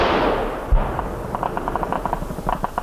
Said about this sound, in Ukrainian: Пішла відповідь. Горизонт запалав вогнями, навколишні поля та лісопосадки заповнилися розкотистими звуками вибухів снарядів. Розгорілася справжня локальна війна.